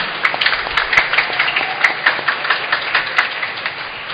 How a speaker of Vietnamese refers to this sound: Lễ sinh và toàn thể chúng ta cảm ơn các cụ, các ông, các bà, các bác, các anh, các chị. Một tràng vỗ tay thật lớn.